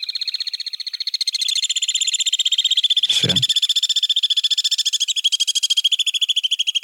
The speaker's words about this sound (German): wir haben hier einen Nahverwandten des Mauerseglers, die zweite Seglerart, die in Deutschland brütet